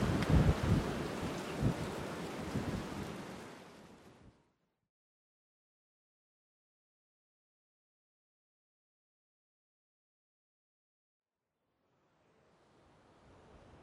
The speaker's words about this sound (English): Wow, it was fucking windy as fuck when I was like out exposed by the ocean, which I guess, you know, because we're jutting out into the sea.